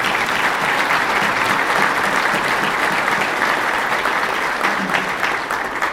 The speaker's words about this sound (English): This was thanks to an incredible effort from the Guelph Police Services who coordinated the event. Let's give them a special round of applause. A Guelph proud moment.